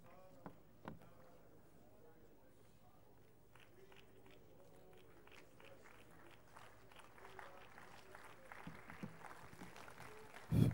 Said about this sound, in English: If that clap is for Jesus, we can make it bigger. And joyfully so, with a big shout.